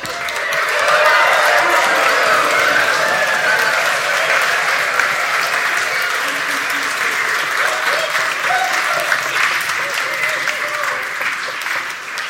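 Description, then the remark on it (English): A large crowd of villagers claps, cheers, stands and stamps, whoops and whistles loudly and steadily for about twelve seconds as children go past in a produce parade, a dense, continuous roar of applause. “The children, in a second, all went down to the produce parade, and this time the villagers cheered and clapped, stood and stamped, and whooped and whistled when they went past.”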